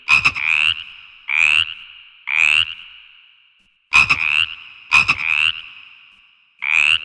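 Frogs croak in a steady series of loud, nasal calls, about seven bursts each lasting roughly half a second, repeating with short gaps between them and no talking.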